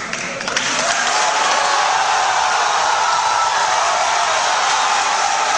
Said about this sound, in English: Following an on-again, off-again rollercoaster ride on the gay marriage train, the Argentinian lower house has voted in favor of same-sex marriage. With the announcement of the vote, 126 for, 109 against, the chamber erupted in applause.